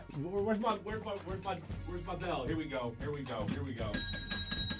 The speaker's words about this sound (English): Where's my bell? Here we go.